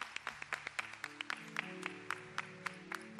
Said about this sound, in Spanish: Sí, ese aplauso con ganas.